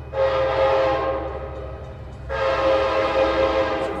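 An Amtrak Cascades passenger train heading southbound toward Portland beside the Columbia River sounds its horn in two long, loud blasts separated by a short gap, over a steady low rumble of the train in motion. No one speaks.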